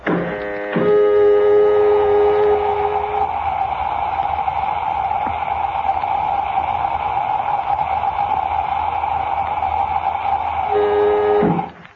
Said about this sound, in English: Filling airlock.